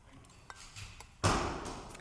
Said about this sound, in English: That was a mic drop, boom, but not intentionally.